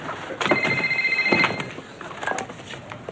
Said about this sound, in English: Is that your cell phone? Oh, it's nothing. You know, probably just business.